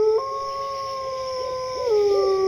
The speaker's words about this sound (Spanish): ¿Qué es eso? No lo sé, pero no me gusta nada. Son lobos. Tenemos que salir del bosque.